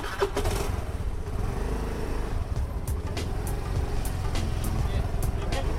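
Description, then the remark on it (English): A delivery rider's motorbike rides through busy city traffic in Bangalore, weaving between lorries, over speed bumps and around potholes. Its engine is a steady low rumble under constant road noise, with occasional sharp clicks and knocks breaking through. “confidently weaves his way between lorries, over speed bumps and around potholes.”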